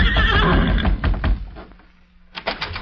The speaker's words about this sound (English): Couldn't be two horses that sound the same. Look, it is Silver.